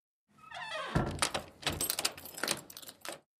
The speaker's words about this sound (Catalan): Vaig agafar les claus i vaig obrir la porta.